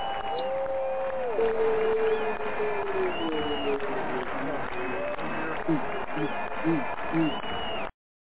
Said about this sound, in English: And the crowd goes wild for Coach Shay Samuels.